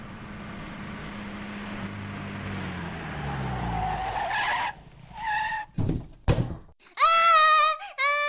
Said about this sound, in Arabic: ماذا حدث؟ إنه صوت حادث سير.